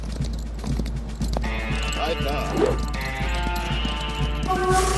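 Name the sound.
horse hooves clip-clopping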